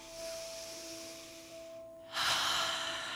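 A slow, deep breath drawn in through the nose for nearly two seconds, airy, then a brief pause before a louder rush of breath out, during a guided meditation with eyes closed.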